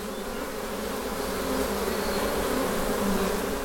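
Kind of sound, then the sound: insect, honeybees buzzing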